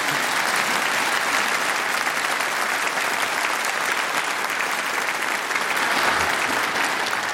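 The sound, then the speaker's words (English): A sustained round of applause played on a radio programme to congratulate a listener for their questions, many hands clapping in a dense, steady wash of sound that holds at an even, fairly loud level for several seconds without pause. “We'll not only be sending you a book voucher prize, but over the airwaves, we congratulate you with this far from mysterious round of applause.”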